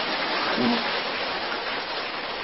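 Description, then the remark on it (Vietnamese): Steady, dense crackle of applause from an audience at a temple, thanking the abbot, a continuous wash of clapping held at an even level throughout, with a brief faint voice murmur near the start. “Tràng pháo tay nữa, cảm ơn thượng tọa trụ trì.”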